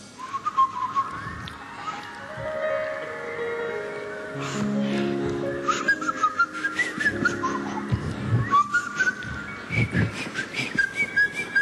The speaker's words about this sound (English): Warm up now. I don't want you to split a lip on my... I don't want you to, have a blister. Just whistle a little bit to warm up.